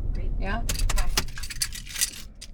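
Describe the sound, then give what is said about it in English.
A car engine's low rumble winds down as the car is turned off and keys jangle and clink in a burst of bright metallic rattles, trailing off into a few softer jingles. “Turning off the car?”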